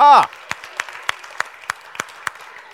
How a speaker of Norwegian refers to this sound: Ja, se det, vi må klappe spesielt for dem!